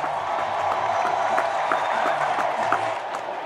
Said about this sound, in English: They're chanting, thank you, Joe. Thank you, Joe.